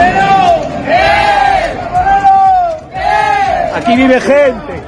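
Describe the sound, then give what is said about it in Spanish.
A group of tourists entering Santiago, shouting and chanting together in the street in loud, sustained, sing-song bursts, with overlapping voices rising and falling in pitch throughout. “Que entran en Santiago gritando y cantando ante el hastío y el malestar de los vecinos.”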